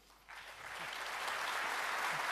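An audience at the CCC conference bursts into applause welcoming a speaker, the clapping swelling quickly after a brief quiet start and holding as a dense, steady roar of many hands.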